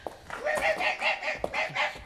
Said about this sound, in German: Das Bellen kommt von da drüben, aus dem Nebengang.